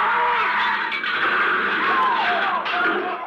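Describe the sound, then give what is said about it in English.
A car skids toward a truck with loud, sustained screeching tires over a dense roar of engine and road noise, the squeal rising and bending for several seconds without a clear impact. “A truck! Look out!”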